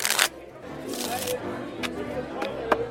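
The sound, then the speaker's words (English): A deck of playing cards is shuffled for a one-cut high-card bet in several quick bursts of riffling and snapping, with a low murmur of voices in the background. “shuffle us a dick.”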